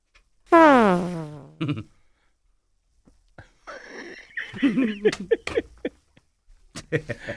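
A loud, wobbly fart noise blares from a fart box toy, then after a short pause comes a longer run of sputtering, squeaky fart sounds with a few brief bursts at the end.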